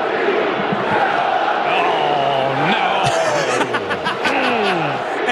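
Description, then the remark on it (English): A large crowd chants 'sell the team' together in a dense, steady roar, with rising and falling group voices and sharper cries breaking through around the middle. “And it's like, oh, they are really, like, as a group, to chanting sell the team.”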